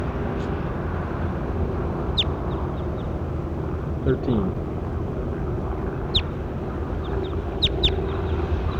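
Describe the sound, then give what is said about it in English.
A recorded bird, bird number 13, gives short, sharp, high-pitched chirps, about five, spaced irregularly over a steady low rumble. A voice speaks briefly in the middle. “That was bird 13. That's him again.”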